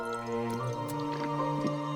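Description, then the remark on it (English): A South Park cartoon character takes several wet gulping swallows from a bottle, soft liquid glugs spaced about every half second, heard over a steady sustained musical tone with no talking. “He glances from Butters to Cartman, then shrugs and takes a big gulp.”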